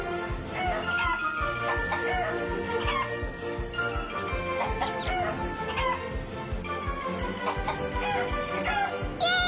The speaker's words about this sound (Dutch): En het werkt. De kippen beginnen eieren te leggen.